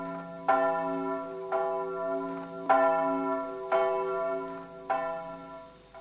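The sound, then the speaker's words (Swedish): Church bells across Sweden ring in the peace on 8 May 1945, in a steady, overlapping peal, with strikes landing about once a second and rich tones lingering between them, clear with no voices. “Först efter 5 långa år, den 8 maj 1945, ringer Sveriges alla kyrkklockor in freden.”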